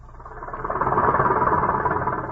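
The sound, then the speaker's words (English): A heavy harvesting machine engine on a mechanized American farm runs steadily, a dense mechanical rumble that swells over the first second and holds loud with a low, rattling drone. “Harvesting machines.”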